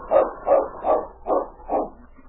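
A dog, King, barks five times in a steady, evenly spaced rhythm, each bark short and fairly full-voiced, with no talking around it.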